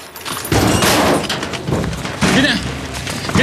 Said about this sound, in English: He cocks his gun and shoots the lock, then kicks open the door.